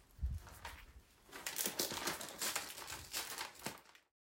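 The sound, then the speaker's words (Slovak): Paper crinkles and rustles in uneven bursts as a gift is wrapped with tape, with a soft low thump at the start, then a steady run of crisp crumpling that fades out quickly at the end. “Ešte vám chýba lepiaca páska. Super, skvelý nápad. Ja to tu podržím a poriadne to pritlačte.”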